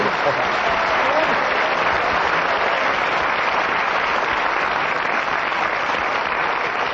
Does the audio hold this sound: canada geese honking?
no